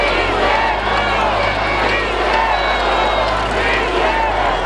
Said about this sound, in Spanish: Mientras el presidente López Obrador ondeaba la bandera de un lado al otro y tocaba la campana de Dolores, el público asistente coreaba: ¡Sí se pudo! ¡Sí se pudo!